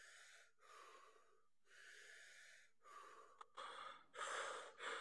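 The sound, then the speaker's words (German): Rapid, deep breaths through the mouth in the Wim Hof breathing technique, about five loud airy inhales and exhales in quick succession, with no talking, growing more forceful toward the end. “Wim Hof-Technik, nur dass ihr es mal gehört habt, ist halt wirklich so häufig eher durch den Mund”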